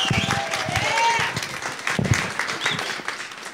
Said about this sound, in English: So why don't you give a big old hand clap as she comes up.